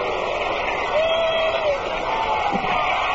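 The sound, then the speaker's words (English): A baseball crowd jeers Mets batter Helio Chacon as he leads off the top of the fifth inning, in a steady, dense roar of many voices that holds at an even level throughout, with a brief rising whistle cutting through partway. “Crowd getting on with Helio as the result of his spirited battle with Willie Mays in that first game.”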